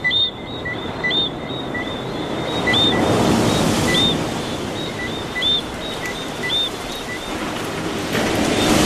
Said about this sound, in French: le bruit de la mer permanent qui ne s'arrête jamais comme un bruit obsédant, pénible, celui des vagues